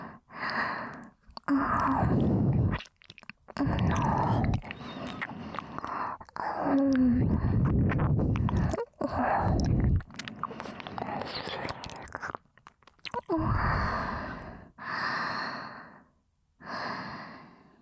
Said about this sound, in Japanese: 今の耳なめは、いわばご挨拶です。私のコンサルがうまく機能しているかの確認です。